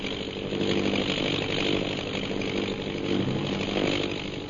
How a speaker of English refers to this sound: Say, that plane's coming down. And with it, a fortune in smuggled emeralds.